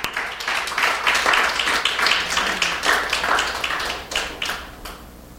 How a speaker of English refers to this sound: And how many of you are blessed? Give God a praise clap if you have.